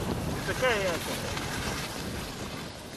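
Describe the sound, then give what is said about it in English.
Strong wind blows steadily outdoors on a cold, windy day, a loud rumbling rush buffeting the microphone throughout, with a brief warbling tone near the start. “Yeah, it's a windy day today.”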